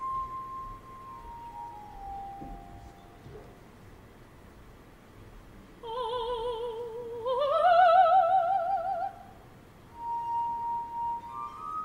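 Ethereal glass harmonica tones, used as accompaniment in the passage instead of the usual flute, ring out in sustained, gliding notes, with a brief shimmering vibrato passage swelling in the middle before the melody softens again over a faint hiss.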